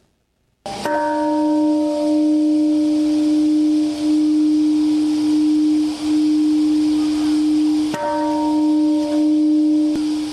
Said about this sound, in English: Bells rang out at a sunrise ceremony at Hiroshima's Peace Park, honoring the 140,000 people killed by the U.S. atomic bombing August 6, 1945.